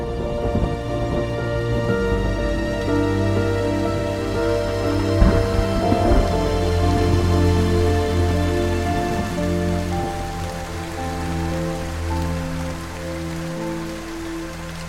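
Steady rain falls continuously on a hard surface, a dense patter of drops with no voices, holding an even intensity throughout.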